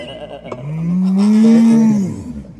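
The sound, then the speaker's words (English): A person does a loud, drawn-out moo impression of a cow, a single low voice swelling and sliding in pitch for about two seconds before trailing off. “That reminds me, I haven't done any cow impressions yet on this track. Oh, we'll do one for you now, shall I?”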